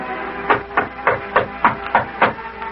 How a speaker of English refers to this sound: maybe we better knock first